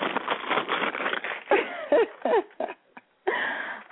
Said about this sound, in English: And I actually wrote it on an envelope, a business envelope that has a little plastic window on it. So I want to take a second and just let you hear the paper in this envelope. Listen.